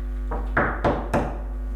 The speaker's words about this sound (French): Il faut fermer la porte.